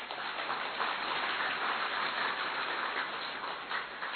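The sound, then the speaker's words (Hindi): A crowd claps for themselves steadily for several seconds, a dense, even patter of many hands with no pauses and no voices on top. “Good, very good, खुद के लिए ताली बजाओ।”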